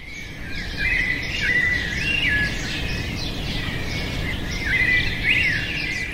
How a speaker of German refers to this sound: Sonnenaufgang in Mexiko-Stadt. Vorhang auf für die Vögel. Gemeine Spatzen und gefleckte Cuitlacoches begrüßen singend einen neuen Tag ohne Verkehrslärm. Vor der Corona-Quarantäne waren sie hier um die gleiche Zeit kaum zu hören.